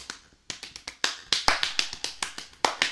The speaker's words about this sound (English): Dad, what about this? Look at. Let me hear it. Look at even faster clapping. Okay. Yeah, give it to me.